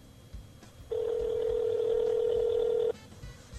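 A single steady telephone tone from a call being placed, sounding for about two seconds, clear and fairly loud over a faint background hum, with no talking.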